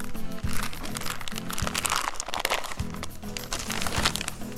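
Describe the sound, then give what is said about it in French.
Busy crinkling and tearing of gift wrapping paper, sent by correspondents in French Guiana, as it is opened. Rustles and sharp crackles come in quick bursts for several seconds over a low, steady musical hum. “Oh, un papier cadeau envoyé par nos correspondants en Guyane. Si on l'ouvrait.”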